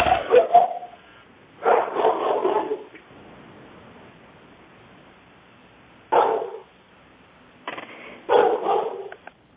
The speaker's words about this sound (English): Should we take that bark as the response? Yeah. We can. Good timing. Yeah. But yeah, let's go ahead to usability. Sorry, that was my dog.